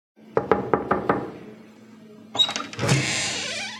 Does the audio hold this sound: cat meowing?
no